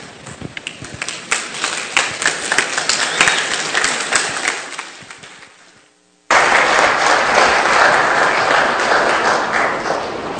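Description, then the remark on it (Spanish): A crowd applauds with dense, crackling claps that fade almost to silence, then a second round of loud, sustained applause bursts in abruptly and continues steadily. “¿Le podemos dar otro aplauso?”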